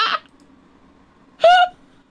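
Two short, high-pitched yips from Lola, a small dog: one quick and sharp, then a slightly longer, tonal yelp about a second later, with quiet between them and no talking.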